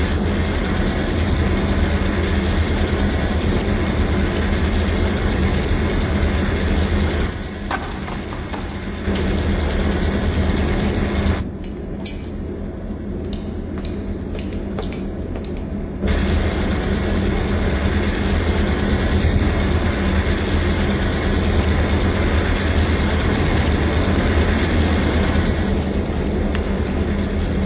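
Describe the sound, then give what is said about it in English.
A passenger train rumbles steadily as it pulls out of a station, a heavy, continuous low engine drone that briefly softens midway before swelling again, with no voices. “Smoking cars forward, all aboard, boarding.”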